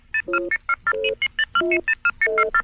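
A rapid run of about a dozen touch-tone beeps as a telephone number is dialed to place a call to Governor John Reed of Maine, each short electronic dual-pitched tone crisp and evenly spaced, with a few held slightly longer.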